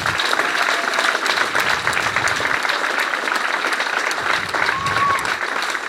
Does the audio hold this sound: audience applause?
yes